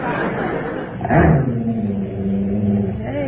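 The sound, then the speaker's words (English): A dog growls in a low, rumbling tone, starting with a louder burst and then holding a steady, sustained snarl that rises slightly at the end. “Look, now, don't worry about the dog growling.”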